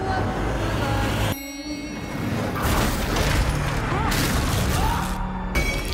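A loud, sustained thunderous roar and rumble from the horror film Evil Dead Rise fills the whole clip, dipping briefly early on before surging back as a dense, crackling wall of noise with faint tonal streaks.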